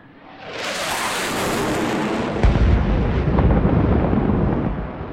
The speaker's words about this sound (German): die hier eben ein Kampfjet vom Typ F-18 mit einem Doppelknall durchbrochen hat